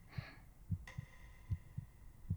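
A steady heartbeat thumps in low, muffled pairs, soft, repeating at a calm pace with a faint hum and a brief high tone in the background.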